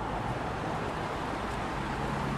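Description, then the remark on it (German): A steady, dense roar of car traffic moving off after a traffic light turns green, with engine rumble and tire noise blending into one continuous wash of sound and no voices. “Und jetzt ist gerade die Ampel auf Rot, aber jetzt ist sie grün geworden, jetzt hört man selber.”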